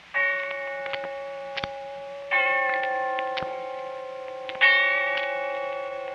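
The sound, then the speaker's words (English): On All Souls' Night, a bell tolls three times at slow, even intervals, each strike ringing out with a long, shimmering decay, sounding somewhat distant and echoing, with faint ticking clicks in between. “And when I heard the bell tolling somewhere in the distance, I remembered.”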